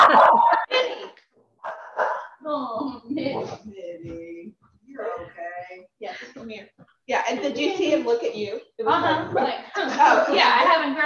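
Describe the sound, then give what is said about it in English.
A small dog lets out a few short, high barks and yips, mixed in with people talking and chuckling. “A little bark just in case.”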